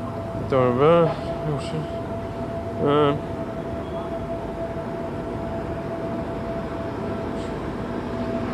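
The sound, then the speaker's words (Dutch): A tram rail cleaning vehicle rumbles past with a steady mechanical drone and a constant humming tone throughout, while short bursts of a voice break in near the start. “Sorry, er komt iets langs. De tramrails worden schoongemaakt.”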